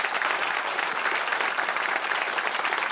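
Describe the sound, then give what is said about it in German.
An audience in Mainz applauds steadily to welcome a guest singer, a dense wash of many hands clapping at an even level throughout with no voices standing out. “Also ich freue mich sehr, dass Sie hier sind und Sie hören ja schon, das Publikum freut sich auch sehr, zumal Sie im Anschluss ja auch noch ein kleines Konzert für uns geben werden.”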